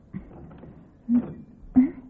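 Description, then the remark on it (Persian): A chimney damper hatch is worked loose and lifted off: a light knock, then two dull clunks with soft scraping and rattling in between. “اینجا یه دریچه دودکش هست. آره اینجا مناسب در اینجاست.”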